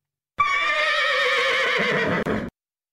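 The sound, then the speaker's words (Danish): A happy, excited horse lets out a loud, bright whinny lasting about two seconds, with a wavering high pitch and a brief break near the end before it trails off. No one speaks. “jeg tænkte, jeg kunne prøve at spille en hestelyd, og så skal du vurdere, om det er en glad hest”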